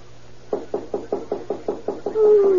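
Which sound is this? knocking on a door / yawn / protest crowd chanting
knocking on a door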